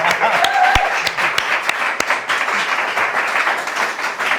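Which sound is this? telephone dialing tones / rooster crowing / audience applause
audience applause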